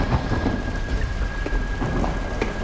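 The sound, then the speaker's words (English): Heavy rain pours steadily outside while deep thunder rumbles low underneath, a dense, continuous storm roar that stays loud throughout, with no voices. “Guns at their sides, they walk toward each other as the thunderstorm rages outside.”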